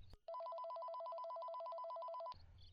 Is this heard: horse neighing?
no